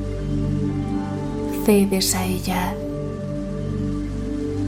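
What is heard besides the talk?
rain falling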